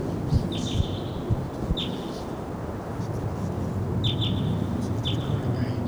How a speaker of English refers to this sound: Hear the birds, but don't see them. Stump. I'm going to see the birds now. They're on the top of a Ponderosa pine in the middle of the canyon. Those wild birds, same pair.